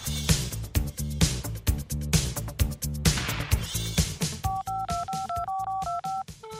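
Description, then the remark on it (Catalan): Upbeat music plays, then a quick run of touch-tone telephone dialing beeps, about eight short two-tone presses in steady succession, clear near the end, as the radio programme Xiu Xiu phones people in Ferreries at random. “Estic telefonant a gent de Ferreries, aleatòriament, sí?”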